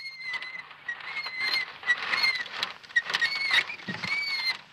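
A small child's unoiled three-wheeled tricycle squeaks continuously in the village of Snopovo, thin high-pitched plaintive whines rising and falling in uneven bursts over a faint rattling patter, with no voices.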